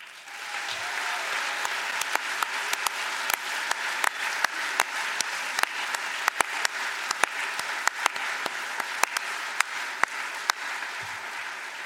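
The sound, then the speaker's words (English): Sustained applause from an indoor audience, a steady wash of many hands clapping with sharper individual claps popping out, holding at an even level throughout with no voices. “everyone in this room here, you can hear it in that applause, is inspired by you.”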